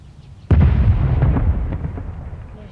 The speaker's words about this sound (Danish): De der kanonslag, jeg synes ikke, de behøver at komme så tidligt på dagen. Hvis det var der ved 8-tiden, så kom der jo mange flere og hørte og så på dem.